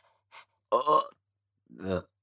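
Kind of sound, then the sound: human body sound, burp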